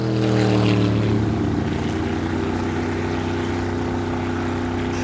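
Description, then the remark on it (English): A boat engine drones steadily in the distance, a continuous low, humming rumble carried across open water, with no voices present. “And a boat on the water, the sound travels right across the water. Even when you're way miles away from where the boats are, you can still hear this rumbling.”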